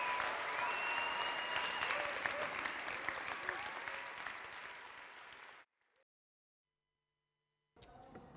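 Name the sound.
audience applause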